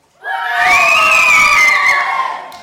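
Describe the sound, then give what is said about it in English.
A crowd of children bursts into a loud, sustained cheer, high voices shouting and whooping together for about two seconds before fading off. “And it was then that the tribe broke into a cheer.”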